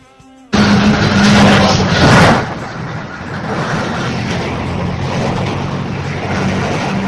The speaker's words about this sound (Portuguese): E olha só como é que o ônibus anda na rua. Isso no asfalto. Vou mandar um áudio para vocês aí, ó, com a situação do ônibus.